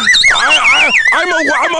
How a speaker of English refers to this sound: I turn into Jimmy Stewart. Whenever I hear a slide whistle, I turn into Jimmy Stewart.